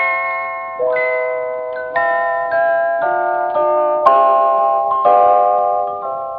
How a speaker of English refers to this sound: And so, of course, it's wedding bells. They sound very pretty, don't they, my dear? Do they? Please, dear, you know they do. You sound effects men, would you bring them up again once, please?